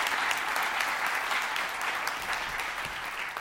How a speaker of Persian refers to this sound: آقا تشویق کنین